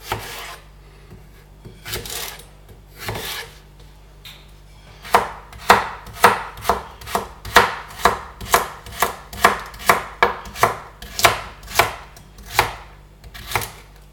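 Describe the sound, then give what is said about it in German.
A knife chops a small carrot into small cubes on a cutting board, starting with a few scattered cuts and then settling into a steady run of about a dozen crisp thuds. No one speaks. “Gut, dann schneiden wir gleich noch die Karotte, das ist jetzt hier auch eine relativ kleine, die muss ich auch noch kurz sauber machen.”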